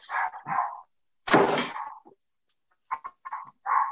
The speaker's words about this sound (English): Jack Russell's. Oh, I've got one of those. They never stop barking. Dog's having its own say, huh?